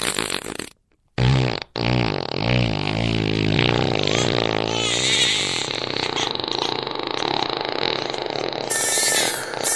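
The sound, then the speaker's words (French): A baby loudly filling a diaper: a short fart burst, a brief pause, then a long, wet, sputtering fart with wavering pitch that rumbles on for several seconds. “Ce sera Tchernobyl dans la couche, mon pote.”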